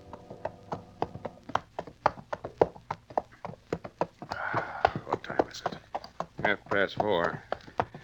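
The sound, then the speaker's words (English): Rapid, rhythmic hoofbeats of galloping horses pound steadily as riders push them hard at a fast pace in pursuit across dry, dusty country before dawn, with men's voices talking over the drumming partway through. “You better ease up. Horses will never stand this pace.”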